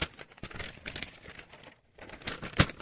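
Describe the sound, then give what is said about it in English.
Paper rustles and crinkles in irregular bursts, with a brief pause partway through and a sharper crackle near the end. No one speaks. “Can't hold your paper.”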